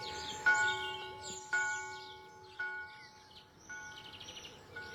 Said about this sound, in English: What's that? Birds in the eaves.